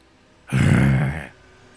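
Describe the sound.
A man growls back in answer to a growl from the bushes, a single low, rough growl lasting under a second, loud and throaty with a gravelly texture, with no other voices around it.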